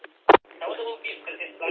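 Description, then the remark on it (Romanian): A brief, loud double blip from a mobile two-way amateur radio, like a roger beep when the PTT button is let go, followed by a person talking through the radio's narrow, tinny channel. “Păi se aude la sfârșit la tine, după ce ai o mână după PTT, se aude un bip, dar să nu fie de la nodul Rolling Timișoara.”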